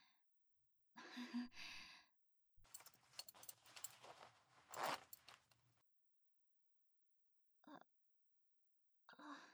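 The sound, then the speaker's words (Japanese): A zipper is drawn down in a drawn-out ratcheting rasp lasting a few seconds, after a short breathy rustle, with brief soft sounds trailing off afterward. “チャック、下ろしますね。”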